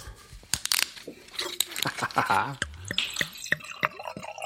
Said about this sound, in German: Okay, dann schüttet auch mal den 13er Riesling ins Glas, dann hast du mehr knackig. Moment, da muss ich das andere Glas nehmen. Genau, Atmo.